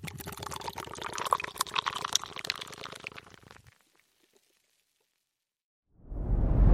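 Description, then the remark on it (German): Beer pours into a glass with a bubbly gurgle and fizz for a few seconds, then stops abruptly. After a short silence, a loud rushing noise swells in at the very end. “jetzt Bierchen, oder?”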